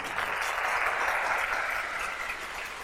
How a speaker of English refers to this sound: Yeah, you like that? There you go. I had to get a full applause in here, otherwise it just wasn't right.